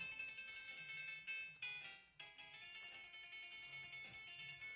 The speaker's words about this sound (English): All right, that was you? Yeah. Okay. What was that? Me. It's your phone? Yeah. Is that your ringtone?